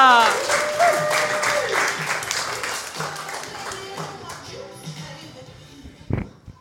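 An audience applauds with dense, steady clapping and a few cheers, gradually thinning and fading out, ending with a single sharp knock.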